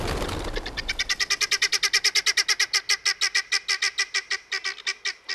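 A flock of guinea fowl gives a rapid, rhythmic series of harsh, grating alarm calls warning that a predator approaches, dozens of loud repeated cackles at a steady fast pace, with overlapping squawks from several birds at the start.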